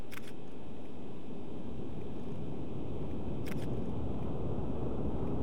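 A steady, deep roaring rumble of a rocket engine as the rocket ascends past the lightning towers to hundreds of meters in the sky, heavy in the low end, with two sharp camera-shutter clicks on top.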